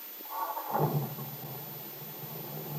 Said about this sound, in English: Now, as they get into the new car, Bill starts the motor. Listen, Peggy.